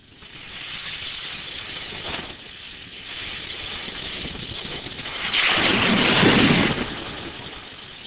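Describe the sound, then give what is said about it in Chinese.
Ocean waves wash in a steady, hissing roar with no voices, swelling briefly early on and then building into one louder, fuller surge before easing back. “你中唔中意听到海浪声咧？”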